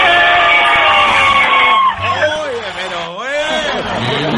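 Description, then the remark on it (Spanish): A group of about ten people gathered in a house shout together in a loud, sustained burst, voices overlapping in a raucous cheer that rises, dips, and swells again before trailing into excited yelling. “Somos 10 personas que estamos acá. ¡El grito!”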